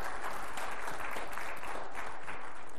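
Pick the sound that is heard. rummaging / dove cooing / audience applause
audience applause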